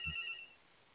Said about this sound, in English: I have to keep a phone handy now because I'm here by myself. But it's a solicitation call.